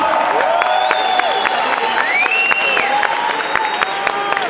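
A crowd at Campus Party claps loudly and continuously for a couple and their baby being welcomed, a dense steady patter of many hands, with whistles and shouted cheers rising and falling over the top.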